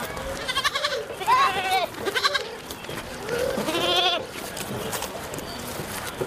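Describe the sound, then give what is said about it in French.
Several goats from a family herd of about ten, taken out to graze daily in the Margala hills, bleat in wavering, nasal cries, a few calls overlapping, with faint background noise of an outdoor setting. “font paître chaque jour une dizaine de chèvres qui appartiennent à leur famille.”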